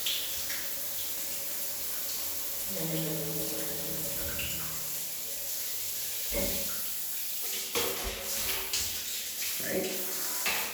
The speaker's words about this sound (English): So now the stick has water going through it. However, if I turn this knob just a little bit, I can get it to go really low, hold on.